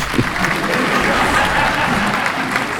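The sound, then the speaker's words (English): A steady round of applause from a small group, dense crackling claps holding at an even level for a few seconds with no one speaking. “Round of applause that you're gone.”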